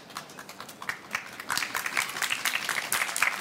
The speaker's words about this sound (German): Ja, Applaus. Also tosender Applaus. Ich hoffe, das hört man dann nachher auch in der Aufnahme. Klar. Tosender Applaus.